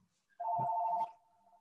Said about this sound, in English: I'm sorry, my phone keeps ringing. I can't figure out how to mute it until it rings.